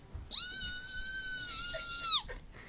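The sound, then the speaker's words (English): A single shrill scream imitating a freshman holds one steady, high pitch for about two seconds, then drops off sharply at the end. It is loud and stands alone, with no talking. “Freshmen scream like that?”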